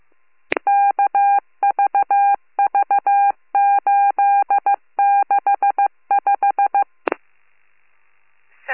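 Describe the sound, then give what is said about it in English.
Telephone keypad dialing tones, dialed to call back a caller after an accidental 911 call: rapid bursts of steady mid-pitched dual-tone beeps punched out in several quick groups, framed by a sharp click at the start and another near the end, with no talking. “Sorry, got a, I'll give her a call.”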